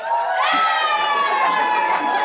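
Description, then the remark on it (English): An audience cheers loudly and continuously to vote on which of two people standing back to back is taller, a dense wash of many voices shouting and whooping together, with higher-pitched yells rising over the crowd noise throughout. “There was like some supportive cheers.”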